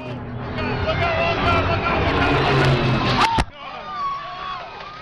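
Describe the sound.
A modified World War II-era P-51 Mustang fighter plane crashes into the VIP seating area at the annual Reno air races, at an airfield north of Reno, around 4:30 pm: a steady roar with crowd noise builds, then a sharp, sudden impact cuts it off, leaving a quieter murmur of voices.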